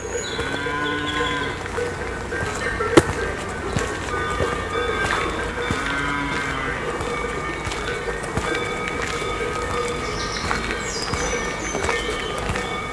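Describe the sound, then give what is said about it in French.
Many cattle bells clank and ring at once in an uneven, overlapping jangle of different pitches, as a herd moves up a forest track in the Pyrenees mountains, steady throughout with one sharper clang early on. “Les sonnailles embellissent avec le chant discret des oiseaux le paysage montagnard.”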